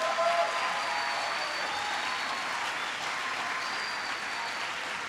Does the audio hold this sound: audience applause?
yes